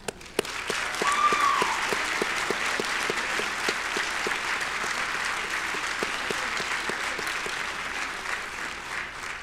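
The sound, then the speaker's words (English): A large audience at a class of 2023 graduation ceremony applauds the faculty and staff steadily, a dense wash of clapping with some sharper individual claps standing out, sustained at an even, fairly loud level throughout with no talking. “Graduates, let us applaud the faculty and staff who have worked tirelessly to prepare the next generation of leaders.”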